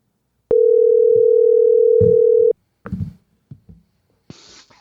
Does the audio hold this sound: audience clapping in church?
no